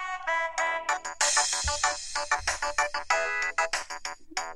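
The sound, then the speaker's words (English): A cell phone alarm set to a ringtone as a you're-late reminder plays a bright, tinny pop song, with a quick run of rhythmic melodic notes and a thumping beat, steady and fairly loud with no one talking over it. “So here's my you're late alarm. This is what it sounds like.”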